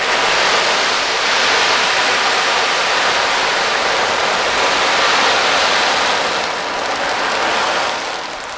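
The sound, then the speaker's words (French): An ocean drum mimics sea waves with a loud, continuous hissing rush of rolling beads that gently swells and eases, thinning slightly toward the end. There is no talking. “On a, par exemple, ici un ocean drum, c'est-à-dire un tambour océan qui...”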